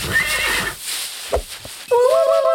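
A horse whinnies loudly in two bursts: a high, wavering neigh at the start, then after a brief quieter gap a second strong, trembling whinny with a rich tonal quality.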